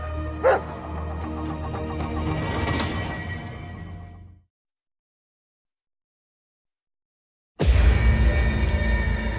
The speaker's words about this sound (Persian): ای آروم باش، آروم باش رفیق، چیزی نیست، چیزی نیست. بهتره سگتو ساکت کنه. رکس تکون نخور رفیق، تکون نخور.